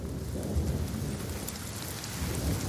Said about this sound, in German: Schwerer Regen hält die Männer tagelang im Basislager fest. Sie warten mit ihrem Aufbruch.